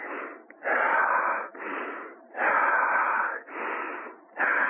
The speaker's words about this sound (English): and in your breathing, too, your breathing kind of changes harmony, changes pace.